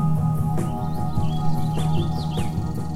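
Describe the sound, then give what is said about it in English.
House finches sing a bright, warbling series of chirps and quick swooping notes in the morning in the Mojave Desert at Joshua Tree, California, over a steady low background hum. “The house finches in the morning having returned.”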